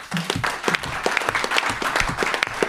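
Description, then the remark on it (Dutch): A crowd of people applauds steadily, dense overlapping claps forming a continuous roar, with no speech over it. “Dus ook daar toch wel even een applaus van aanwezig voor.”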